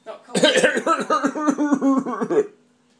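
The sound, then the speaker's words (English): A voice lets out a rapid, rhythmic string of about eight or nine voiced coughing bursts lasting a couple of seconds, sounding like a deliberate, imitated cough, then stops abruptly. “No, coughing.”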